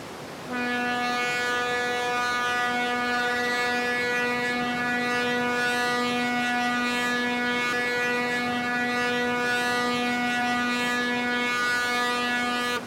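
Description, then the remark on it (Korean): A fishing boat's horn sounds at sea as fishing boats pass: one long, unbroken blast, a steady low-pitched drone with a buzzy edge that holds at an even loudness for over twelve seconds, with no voices. “Fishing boats go past where Haniel work.”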